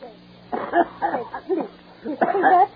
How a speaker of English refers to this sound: You're coughing, can you have a cold?